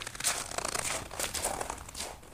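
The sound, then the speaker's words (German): Suspicious footsteps crunch through snow on a dark evening on 20 December, in a steady, unhurried rhythm, each step a crisp, crackling squeak of packed snow. No voices are heard. “Am 20. Dezember, als es abends dunkel war, hörte man verdächtige Schritte im Schnee.”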